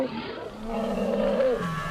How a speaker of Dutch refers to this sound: Het lijkt wel een soort olifantenschoolfeest. Ze leren nieuwe meisjes kennen. Ze snuffelen aan elkaar. En ze schuren.